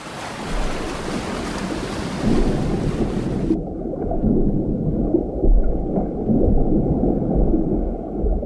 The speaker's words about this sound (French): La mer, c'est si paisible et si relaxant. La brise nous agace la mèche de toupette, l'eau nous glace le sang dans les chevilles.